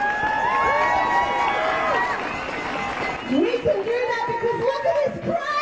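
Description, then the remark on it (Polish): A large crowd protesting Israel's actions in Gaza, at a rally organised by the Sydney Palestine Action Group, fills the street with a dense, steady roar of many voices, some shouting and cheering, with shrill calls and a louder surge of voices toward the end. “Ogromne tłumy wyszły na ulicę, by zaprotestować przeciwko działaniom Izraela w Gazie.”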